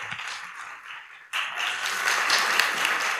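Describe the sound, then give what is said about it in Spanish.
An audience at an award event applauds, a light patter of clapping that suddenly swells into fuller, sustained applause from a sizable crowd, steady, with no voices over it. “Un aplauso, por favor.”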